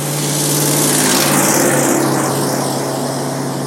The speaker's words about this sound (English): There's a truck walking by.